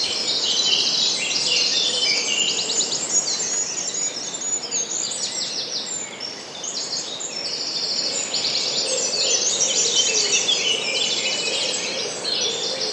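A dense dawn chorus of many birds singing at once in a wood, overlapping high trills, chirps and warbles that run without pause, fairly loud, with a soft hiss of steady background noise and no voices.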